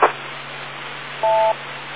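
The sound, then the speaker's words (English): A single short electronic beep, a steady dual-pitched tone lasting about a third of a second, sounds over faint telephone-line hiss, with a brief click at the start and no talking. “Let me get that beep tone in there.”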